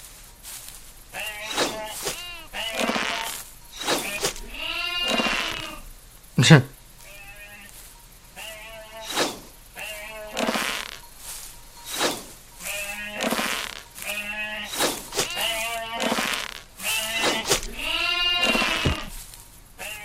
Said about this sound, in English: The sheep have just detected us. Come on, fight! I bet you don't want to be devoured by those raging, shaggy beasts. So now we got sheep.